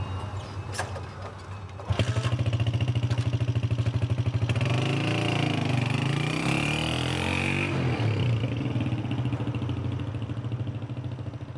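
A motorcycle engine kicks to life with a sudden sputtering roar, then throbs steadily nearby, revving higher as it pulls away and settling into a loud, rhythmic chug.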